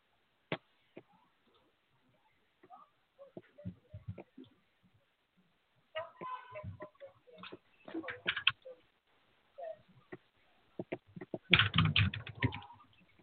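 Quick, irregular keyboard clicks tap away in bursts, fairly close, with a louder cluster of clatter near the end and brief pauses between flurries.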